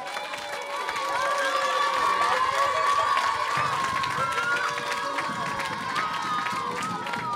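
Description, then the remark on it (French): An audience breaks into sustained applause and cheering, a dense wash of clapping with scattered shouts that swells after the first second and stays loud and steady throughout. “Je pense qu'on peut leur faire un tonnerre d'applaudissements.”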